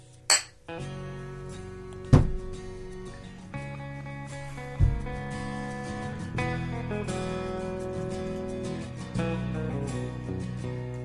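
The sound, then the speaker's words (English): Glasses clink together in a toast, three sharp, bright taps spaced a couple of seconds apart, each followed by a lingering ringing tone over a steady, humming background. “I think that's a good place to end it. Cheers. Cheers.”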